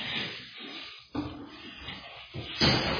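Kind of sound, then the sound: household object, door being closed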